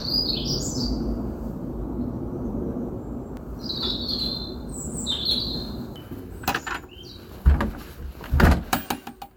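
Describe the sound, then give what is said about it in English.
A blackbird sings short, fluting phrases at intervals at 6 a.m. in Streatham, South London, over a low outdoor rumble; near the end, clunks and rattling thumps break in. “I recorded a few sonic highlights of the journey to get there, starting at 6 a.m. one morning when we set out for Tenerife, accompanied by Streatham's blackbird.”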